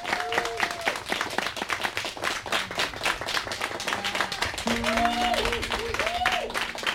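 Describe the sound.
A crowd breaks into steady, dense applause that fills all seven seconds, with scattered whoops and voices rising over the clapping and a sustained tone joining in near the end.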